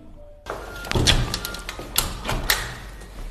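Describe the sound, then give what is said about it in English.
A few sharp knocks on an office door in a city centre office block, irregularly spaced, with faint room noise in between and no one speaking. “The challenge now is to find out where they're based, knock on the door and get some answers.”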